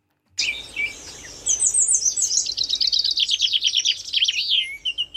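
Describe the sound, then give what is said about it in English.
Birds chirping in a bright, busy chorus of high-pitched tweets and rapid trills, steady for several seconds, with no voices. “I don't know the sounds of birds, but go on.”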